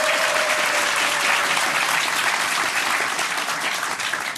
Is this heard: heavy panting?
no